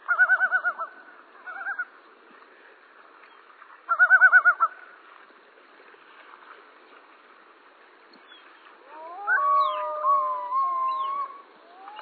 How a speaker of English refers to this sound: They're giving, pretty much going through their whole repertoire of vocalizations, yodels, wails, and moans. If there's an invading loon on their lake